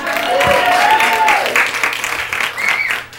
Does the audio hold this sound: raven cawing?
no